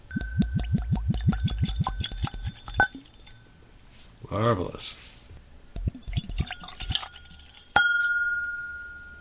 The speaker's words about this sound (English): Let's pour a little in and see what we got.